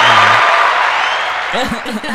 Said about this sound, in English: You know, I just want to welcome him to the show. You know, what's going on? You know, let me give you some applause.